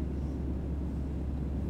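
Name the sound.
airplane cabin engine hum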